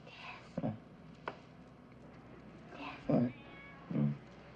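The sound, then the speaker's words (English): A cat meows three times at uneven intervals, short, fairly quiet calls over a low, steady room hum, with a soft click between the first two. “When she moves towards him, he lies back down again and pretends to be asleep with the cat.”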